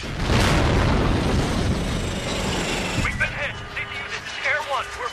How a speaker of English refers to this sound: The Chinese launch a rocket which hits the helicopter.